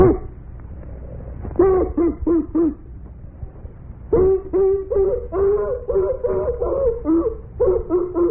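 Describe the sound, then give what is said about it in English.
A voice imitates a dog, with a few quick yelping barks followed by longer whining, whimpering cries that rise and fall, fairly loud over a faint background hum. “And that dog again sounds to me like another great comedian.”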